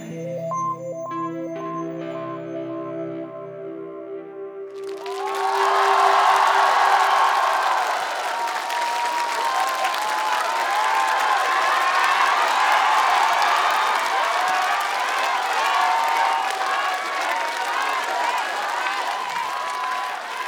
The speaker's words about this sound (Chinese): 谢谢。也希望大家把掌声给我们的吉他手